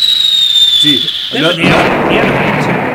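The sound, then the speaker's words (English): A falling-whistle-then-thump sound effect: a high whistle glides slowly downward, then a loud booming thump bursts out and rumbles away. A brief voice is heard just before the impact. “Yeah, it's like, how did Chicago, talk about your fast falls. Yeah. Wee thump, man. Oh, wait a minute, I got that for you.”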